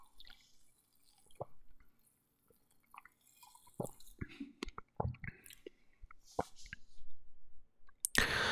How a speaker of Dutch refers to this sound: Ik ga eens een slokje nemen.